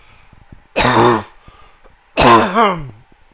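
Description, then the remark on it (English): Two loud throat clearings, each a rough, gravelly burst lasting about half a second, separated by a short quiet pause with faint room noise, made by a speaker after a drink of tea while recording a sermon late in the evening. “Let me have a drink of tea here and clear my throat.”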